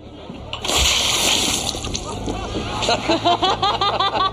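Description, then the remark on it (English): A loud hissing burst of seltzer water sprays from a tap for about a second and a half as Noah is made to spray it all over himself, then fades, followed by Tori Spelling breaking into a rhythmic, exaggerated fake belly laugh. “but then it empties and they make Noah spray water, seltzer all over himself, and Tori Spelling's fake belly laugh must be heard, clip two.”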